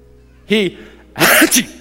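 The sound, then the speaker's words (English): A voice imitates sneezing: a short sharp burst, then a pause, then a longer breathy "ah-choo" with two loud bursts, clear with no other talk. “He sneezed 7 times. He didn't cough.”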